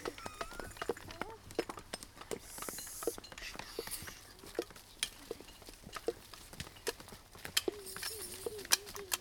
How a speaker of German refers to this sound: Er hört ganz leise Schritte.